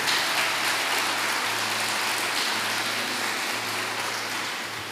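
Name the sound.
audience applauding loudly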